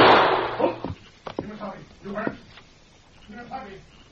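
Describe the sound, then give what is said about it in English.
A single loud gunshot cracks at the very start and quickly fades, followed by voices talking; in a Lone Ranger radio drama, Tex shoots at the masked man. “You plugged him, Tex.”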